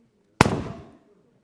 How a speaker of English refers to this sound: Now, of course, if pin meets balloon, what's going to happen? It's going to pop, okay?